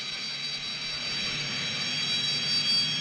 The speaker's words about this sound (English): Oh, yeah, that's an airplane sound.